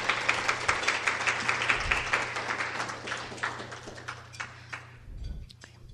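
An audience applauds for Kelly, who is not present, with dense, rapid clapping that stays steady for several seconds and then tapers off, leaving a few scattered claps over a low steady hum.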